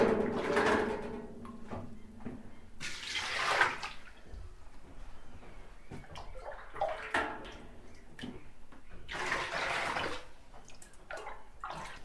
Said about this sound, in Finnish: Kyllä veneessäkin saa tiskattua aina keittää pannullisen kuumaa vettä ja sitten käyttää säästeliästi tiskivettä, niin sillä tavalla saa veneessäkin tiskattua, mutta tämä on jotenkin tämmöistä ylellistä, kun saa lämmintä vettä paljon